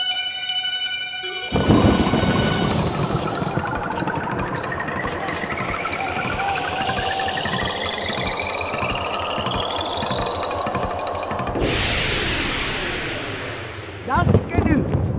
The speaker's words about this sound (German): Bitte sehr, auf der Seite 324 im Hexenbuch steht ein Gewitter mit Kugelblitz.